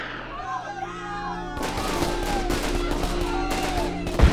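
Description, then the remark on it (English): A sudden loud blast, an explosion right outside the God King's pavilion tent, erupts partway through, followed by crackling, rumbling bursts like gunfire or debris, with another sharp impact near the end over a steady low hum. “Thulia cringed in terror as an explosion thundered right outside the God King's pavilion.”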